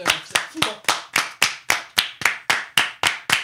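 hands clapping

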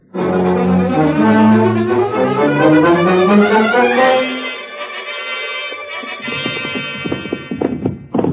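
horses' hooves clip-clopping

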